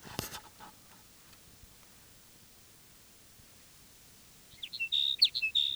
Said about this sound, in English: Here's sage sparrow number three. This is the one that was singing simultaneously with number two.